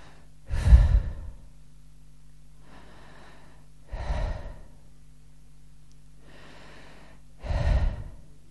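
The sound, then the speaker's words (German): Slow, steady breathing of a person sound asleep: a soft, airy inhale followed by a heavier, louder exhale, repeating in an even rhythm about every three and a half seconds. “Zunächst atmet er ein, dann atmet er aus.”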